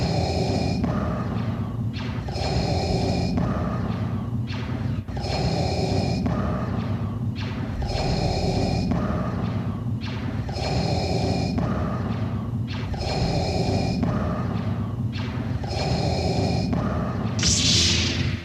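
Darth Vader's mechanical respirator breathing repeats in a steady rhythm, about seven hissing inhale-exhale cycles, loud with a raspy, filtered tone and no talking.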